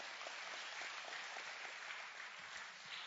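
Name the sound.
audience hand clapping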